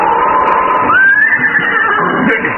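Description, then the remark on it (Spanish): Nervous horses whinny loudly at night, a shrill rising neigh that wavers and trails off, with rustling noise underneath and no talking. “De pronto, los relinchos rompieron el silencio de la noche.”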